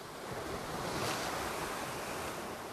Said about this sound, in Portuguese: Vê, Farhan, já nem o mar é tão calmo como era.